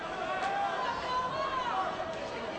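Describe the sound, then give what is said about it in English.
A large indoor crowd at a Franklin Regional versus Connellsville wrestling match roars in a steady, continuous wash of overlapping voices, rumbling, booing and hollering, with raised shouts and drawn-out calls rising above the general rumble throughout. “You may have heard a lot of rumbling, booing, shouting, hollering. All of that coming from the Franklin Regional Connellsville match.”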